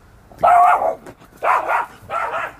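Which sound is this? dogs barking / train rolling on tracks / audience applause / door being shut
dogs barking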